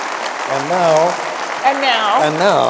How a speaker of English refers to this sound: So how about a big round of applause for NPR? That's great.